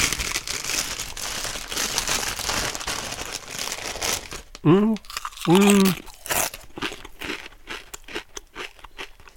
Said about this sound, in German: Des Weiteren war da noch eine Tüte Chips drin. Ich soll mal wieder meine Hörer damit ordentlich nerven, indem ich hier rumknuspere. Auch dies tue ich jetzt.